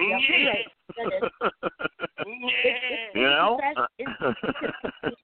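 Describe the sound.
A string of loud, wavering, nasal sheep bleats comes in quick succession with short pauses between, sounding thin and tinny, as if played through a small speaker.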